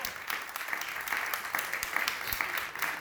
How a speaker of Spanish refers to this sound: Sí, un aplauso para ellos, por favor.